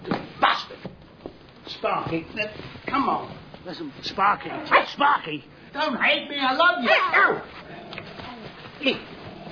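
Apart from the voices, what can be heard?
dog barking and whimpering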